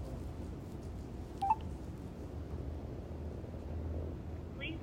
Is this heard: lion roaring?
no